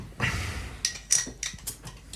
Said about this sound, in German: Man öffnet die Biere.